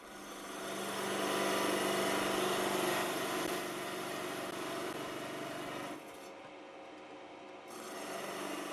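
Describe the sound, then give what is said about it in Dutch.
A sawing machine runs steadily and loudly with a harsh, rasping whine, its tone dipping briefly near the end before picking back up. No voices are heard. “Dan gaan we wel naar de zaagmachine. En dat geeft wel even een klein beetje herrie natuurlijk, want dat gaat niet geluidloos.”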